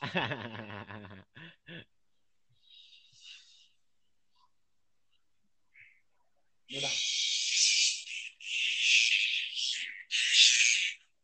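A loud insect calling at night at a house, in harsh, high-pitched buzzing bursts, three long rasping stretches in a row, after a few brief tonal sounds and a quiet pause.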